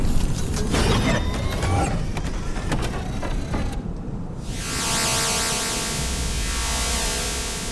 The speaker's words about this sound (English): The sound of subterranean machinery whispered from the ground, and an extensive structure emerged. It was a door.